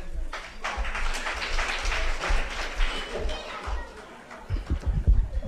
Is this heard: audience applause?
yes